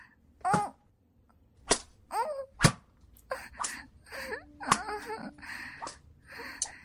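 A man lashes a person with a whip, several sharp, spaced, loud cracks, while the person being whipped lets out pained wails, moans and whimpers between the strikes.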